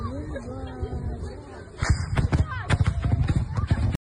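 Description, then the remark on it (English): A cluster bomb explosion: a sudden loud blast followed by a rapid, irregular string of sharp secondary pops and cracks lasting a couple of seconds, with a murmur of voices just before it. “People were telling me you can hear the cluster explosive in a secondary set of click, click, click explosion types.”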